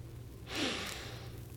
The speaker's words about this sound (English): Come here a second. Now put your nose right here. Now, sniff.